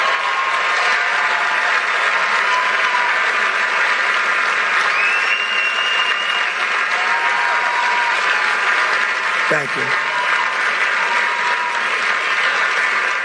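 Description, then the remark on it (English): Loud, sustained applause from a large crowd fills the whole stretch, a dense continuous roar of clapping with cheers mixed in, and a voice briefly speaks over it near the end. “And so there he is. Huge applause.”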